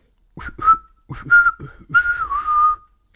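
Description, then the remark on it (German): A person whistles in three short bursts of chirpy, warbling notes, imitating birdsong, fairly loud with brief pauses between phrases. “Ja, und ich habe gepfiffen.”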